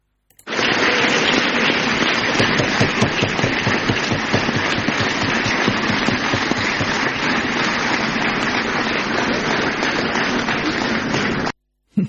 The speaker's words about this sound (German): Das war der Applaus der Bundesvertreterversammlung des Bundesverbandes vom NABU letzte Wochenende in Mainz. Da bin ich gewesen und ich durfte da ein Stück Applaus mitschneiden, nur für dich, lieber Bernd.